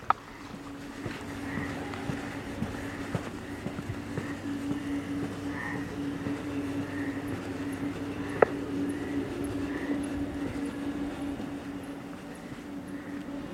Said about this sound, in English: Some kind of electrical box.